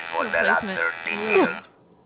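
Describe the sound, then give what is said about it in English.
A kazoo buzzes in a harsh, nasal drone for about a second and a half, its pitch wobbling and sliding up and down like a door buzzer, then cuts off. “Sounds like he's buzzing somebody into his apartment.”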